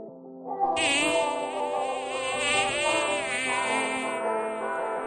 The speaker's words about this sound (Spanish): Sí, ese zumbido casi es banda sonora de nuestra Alcarria y de otras tantas zonas de nuestra provincia. Son las abejas